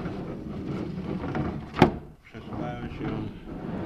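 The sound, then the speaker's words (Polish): An electric car door slides down into the front fender well with a steady motorized whir, a sharp click partway through, a brief pause, then the whirring resumes. Moderately loud. “I drzwi są również elektryczne.”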